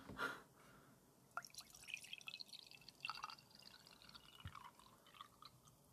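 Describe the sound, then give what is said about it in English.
Tea is poured near a microphone for ASMR in a quiet, uneven trickle, with light splashes and drips scattered across several seconds and no voices. “Don't pour it on the mic.”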